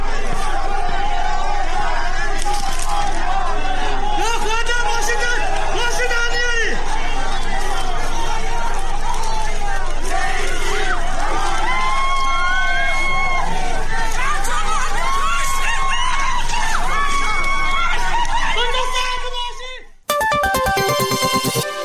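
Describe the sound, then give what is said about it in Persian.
A loud protest crowd as police use water cannon vehicles on it: many voices shouting and chattering over one another in a dense, continuous hubbub with raised calls rising above it, breaking off abruptly into a short burst of harsh noise. “در این ارتباط نیز فیلمی در شبکه‌های اجتماعی منتشر شد که لحظه استفاده این نیروی انتظامی از ماشین‌های آب‌پاش را نشان می‌داد.”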